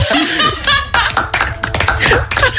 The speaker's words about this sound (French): Faut l'applaudir quand même.